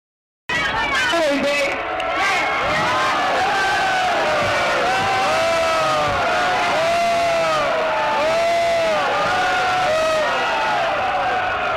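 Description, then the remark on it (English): A loud crowd at a rally shouts and argues over one another about whether Sylvia Rivera should be given the opportunity to speak, many voices overlapping in a dense, agitated din with rising and falling yells, and no single speaker standing out. “So that is, just to cut in, discussion amongst the crowd as to whether Sylvia Rivera should even be given the opportunity to speak.”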